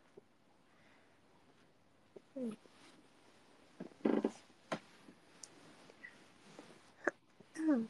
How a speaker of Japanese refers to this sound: 鼻詰まってるみたい。ふんふんした？大丈夫？うん、うん、大丈夫？大丈夫そう。心配だで。鼻ふんふんしてる。